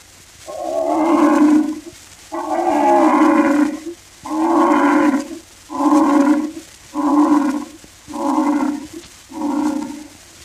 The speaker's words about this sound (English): They all stopped and became hushed when the king of beasts, the mighty lion, roared like this.